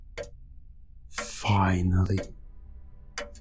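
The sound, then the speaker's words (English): A couple of crisp mechanical clock ticks, made by the last gear in the clock's machinery, sharp and isolated, sit at the start and end, with a brief voiced, humming vocal sound in between. “trying to reach the last gear in the system, the one that makes the clock tick. The reason this complicated machinery exists in the first place. There you are.”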